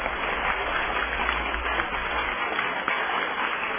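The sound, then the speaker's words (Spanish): An audience claps steadily for Celia Medrano, a Salvadoran finalist for Executive Secretary of the Inter-American Commission on Human Rights. It is a dense, even patter of many hands that holds at a fairly loud level for a few seconds without pause. “Los aplausos entonces para Celia.”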